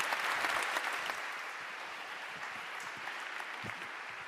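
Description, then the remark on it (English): Sustained audience applause, a dense wash of many hands clapping at steady volume throughout, with no voices standing out above it. “Round of applause.”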